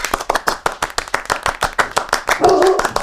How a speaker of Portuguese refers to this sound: Ah, gente, uma salva de palmas pra Sara.